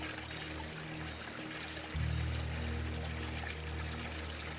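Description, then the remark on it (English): Steady, very clean and extremely cold spring water pours from a carved tree-log spout at a natural fountainhead in a continuous splashing stream, growing fuller and heavier after a couple of seconds. No voices. “This fountainhead is providing us with very clean water that's extremely cold, really cold and very pleasant at the same time.”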